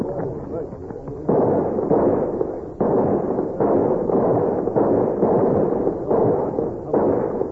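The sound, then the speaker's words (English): A ragged salute of rifle fire by a group of men: roughly eight loud, booming shots at uneven intervals, each leaving a heavy, rumbling tail that carries into the next. “Let's give them a salute. Yes, sir. Attention! Get your rifles! Load up fast!”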